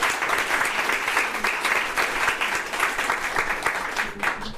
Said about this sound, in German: Das ist auch nochmal ein Applaus wert, ja.